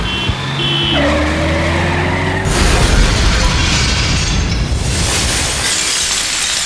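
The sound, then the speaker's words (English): The heavy engine of Christo's tank rumbles and grinds in Sydney as it drives over a car; a loud crunch of metal erupts with glass shattering and breaking debris, followed by continued noisy crushing and rumbling. “Well, there used to be a car there.”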